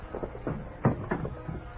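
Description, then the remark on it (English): A single dull wooden bump as someone knocks into a chair in a darkened living room, surrounded by faint scuffs and shuffling movement. “Oh, that chair.”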